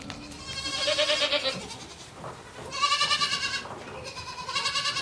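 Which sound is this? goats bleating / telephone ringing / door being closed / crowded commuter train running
goats bleating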